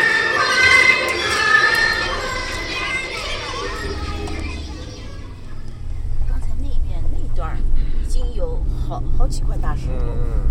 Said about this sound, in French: Petite note de poésie, le camion poubelle annonce son passage en diffusant dans son mégaphone de la musique traditionnelle, pas toujours chinoise.